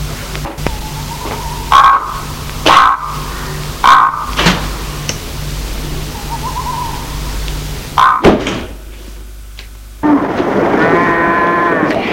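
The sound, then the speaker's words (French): Three cows low in short, repeated calls inside a farm cowshed, with occasional dull thuds and a steady background hum; a louder, drawn-out bellow closes it. “Luc suit Christian, qui le mène à l'étable.”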